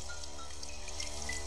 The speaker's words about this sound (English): Another day of rain.